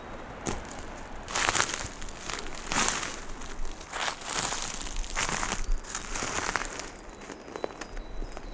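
Footsteps crunching through dry dead leaves while walking off the trail, a steady series of crisp, crackling steps, with faint rustling between them and no voices.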